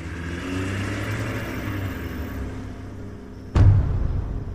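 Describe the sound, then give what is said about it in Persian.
A black SUV's engine rumbles steadily, then a sudden loud burst at about three and a half seconds as it revs and accelerates, coming out of a warehouse and heading to the main road, the low growl continuing afterward. No one speaks. “از بغل نگاه کردم دیدم یه ماشین شاسی بلند مشکی از انبار اومد بیرون و رفت به سمت جاده اصلی.”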